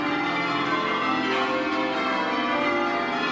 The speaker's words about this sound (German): Ja, denn bei den beiden haben die Glocken, anders als im Song, offenbar sehr zuverlässig geläutet.